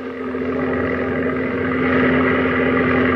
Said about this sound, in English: Hey, look. There's a plane. Zero. Look at that silhouette. She's a zero. And all alone.